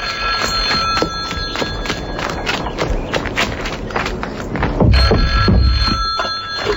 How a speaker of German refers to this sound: Ach, das Telefon. Wieso geht Tante Mathilda nicht dran?